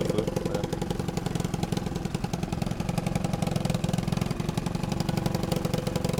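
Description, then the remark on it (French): A quad bike built on a Yamaha quad and transformed boat-like in a Mad Max spirit starts, then its engine runs at a steady idle, its rapid, even pulsing chugging along fairly loud for several seconds with no voices. “Il y a un autre qui démarre qui est pas mal là-bas, celui-là”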